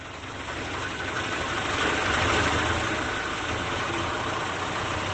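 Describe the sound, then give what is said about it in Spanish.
A tractor engine idles steadily, a continuous low rumble with a rough, throbbing texture that swells slightly in the middle before settling back, with no voices present; the tractor is being used to travel the Camino de Santiago. “Lo están haciendo en tractor.”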